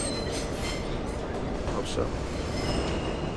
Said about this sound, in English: The train slows to a stop in a tunnel. The lights flicker off and on. MTA crushing it as always.